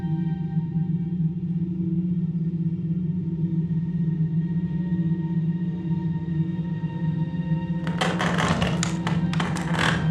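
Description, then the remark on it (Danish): A heavy coffin lid being lifted off a coffin on a table: after a long, steady low drone, a quick cluster of wooden knocks and scraping taps breaks out near the end. “Rejs dig op og løft låget af kisten på bordet foran dig.”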